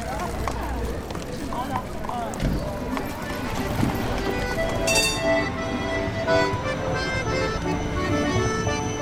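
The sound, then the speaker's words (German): The hooves of two horses clip-clop steadily on pavement in Bern, Switzerland, as they carry petition signatures from the Kornhausplatz to the Federal Palace amid a busy outdoor crowd, with accompanying music joining in partway through and people talking in the background. “Mit zwei Pferden, begleitet von Musik, wurden die Unterschriften vom Berner Kornhausplatz zum Bundeshaus transportiert.”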